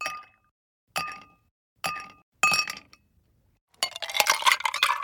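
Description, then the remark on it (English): Huge ice cubes clink against four glasses of brown hard liquor on the rocks in four bright, ringing taps about a second apart, then a quick flurry of rattling clinks at the end. Fairly loud, with no voices. “Four glasses filled with brown, hard liquor on the rocks. The ice cubes huge and perspiring.”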